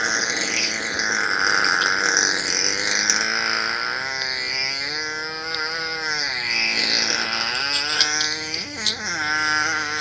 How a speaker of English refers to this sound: There's a guy farting on his front porch.